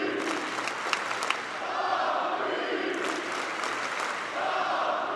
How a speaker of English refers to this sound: After all, he's the man the entire state of Indiana is hanging its hopes on. The crowd is chanting, Tom Crean.